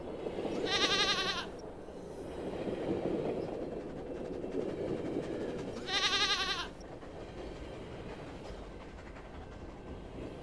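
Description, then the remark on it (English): Two bleating calls of mountain goats jumping from peak to peak, each about a second long and spaced several seconds apart, ring out clearly over a steady low rumble of a moving train. “There were even gingerbread mountains in the distance, and the littlest girl said she could see gingerbread skiers skiing down the frosted peaks and gingerbread mountain goats jumping from peak to peak.”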